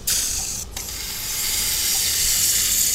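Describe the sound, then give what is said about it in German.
A high-pressure water jet sprays from a suction cannula converted into a spray nozzle, gently loosening fatty tissue, with a steady, loud hiss, briefly cutting out for a moment near the start before continuing evenly to the end. No one speaks. “die Saugkanüle auch in eine Spritzdüse umwandeln. Aus ihr tritt dann ein Hochdruckstrahl aus.”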